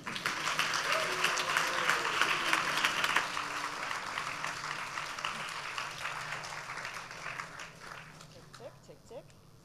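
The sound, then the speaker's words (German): An audience bursts into loud, sustained applause to welcome three speakers, a dense roar of clapping that holds steady for several seconds before gradually thinning and fading away. “Und deswegen wünsche ich mir von euch allen, dass wir sie mit einem tosenden Applaus begrüßen und es losgeht.”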